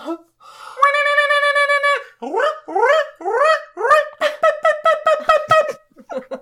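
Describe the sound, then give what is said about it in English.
A human voice imitates a barred owl: a long sustained hoot, several rising whooping swoops, then a rapid run of short, loud barking hoots trailing off into a couple of brief calls. “It's a barred owl. That was me.”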